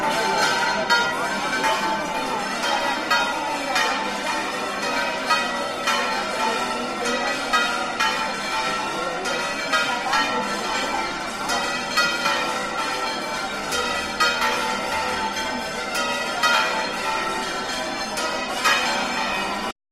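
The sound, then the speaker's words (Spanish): The bells of the Church of Carmen in Murcia, Spain, ring to welcome the arrival of the patron saint of Murcia. They peal continuously and loudly, with rapid, overlapping strikes ringing out in a steady, dense clamor for the whole stretch. Their tones layer into a bright, sustained wash. “Las campanas del Carmen, que sonaban así a la llegada de la patrona de Murcia,”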